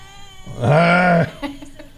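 A single loud squeal from a hog whose tooth got caught, rising sharply and then holding a strained, steady pitch for about half a second before cutting off, followed by a few faint clicks.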